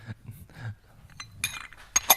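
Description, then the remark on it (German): A teacup clinks a few times as someone drinks tea while sounds are recorded for a soundboard, with bright, ringing ceramic taps around sips, the sharpest two near the end. Soft low rumbling and faint handling noise fill the gaps, with no talking. “Cool, klingt gut, ich trinke erstmal einen Schluck Tee.”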